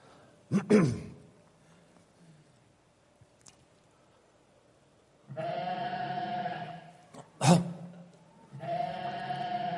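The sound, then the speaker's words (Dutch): A sheep named Wolly bleats twice in long, wavering calls, fairly loud, with a few brief knocks and rustles in between. “Was bijna vergeten, maar ik heb een schaap meegenomen vanmorgen.”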